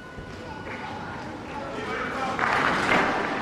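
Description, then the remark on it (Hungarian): A large crowd at Pope Francis's general audience claps to thank him for his teaching and blessing, a steady, dense, crackling wash of applause that swells louder toward the end, with a faint tonal hum underneath. “A mai napon is tapsal köszönik meg Ferenc pápa tanítását, áldását.”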